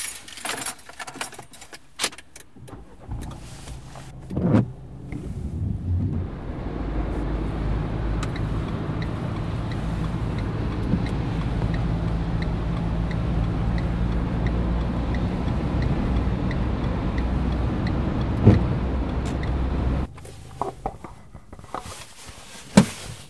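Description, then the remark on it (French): Keys jangle briefly, then a car drives along the road with a steady engine and tyre rumble for about fifteen seconds before it cuts off, followed by a few clunks. “Allez, on prend la voiture et on file à 40 ans les Marais.”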